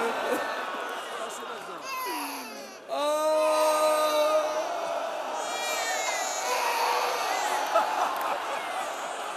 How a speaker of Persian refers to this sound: این یکی دیگه داره گریه میکنه.